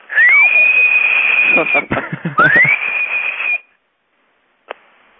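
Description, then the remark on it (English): A phone message board gives a loud electronic chirp when a caller hangs up after leaving a message: two high tones that slide upward and hold steady, with clicks in between, then silence and one short click. “You hear that little chirp. Every time someone hangs up, it chirps.”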